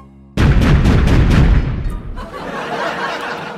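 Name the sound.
firecrackers exploding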